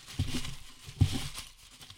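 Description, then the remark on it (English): Slips of paper, individually cut out with the printed names and Twitter handles of bracket entrants, rustle and shuffle inside a bucket that Lunchbox brings in. A continuous dry crinkling carries a few louder knocks and swishes as the pile is stirred. No one speaks. “Lunchbox comes in with a bucket. Oh, here. Let me. You want to hear him? Yeah, you wanna hear yeah. Here. Full of pieces of paper.”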